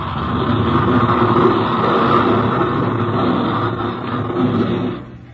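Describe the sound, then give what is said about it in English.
A plane taxiing up alongside another plane in the desert, its engine holding a steady, loud droning rumble with a broad hum, unbroken for about five seconds before trailing off at the end. No voices. “The other plane swooped swiftly down toward it, then came taxiing up to its side.”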